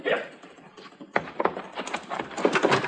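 A horse's hooves beat a quick, rhythmic clatter, starting suddenly after a brief murmur and continuing steadily at moderate volume as Luther rides off on Mr. Dillon's horse. No one speaks.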